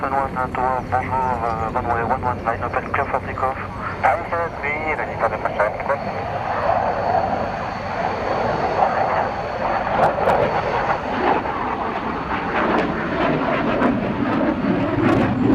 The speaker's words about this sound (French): En fait, là, ils partent pour réaliser une mission d'entraînement de défense aérienne, de combat aérien.